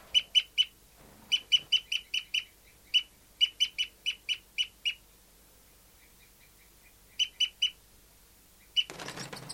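Bird 5-9 gives loud, repeated high-pitched trooping calls in quick bursts of three to eight notes with short pauses between, ending in a sudden harsh, rustling burst like scuffling or flapping wings as it fights with bird 274, the female.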